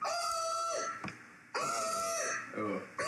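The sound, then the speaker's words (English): A voice mimics a ship's emergency drill alarm, the kind broadcast into a ship cabin during drills, with loud, high, buzzy drawn-out tones, two long blasts that droop slightly at the end, then a shorter one starting another. “My least favorite sound in the whole world has got to be the emergency alarm that was broadcast directly into my ship cabin”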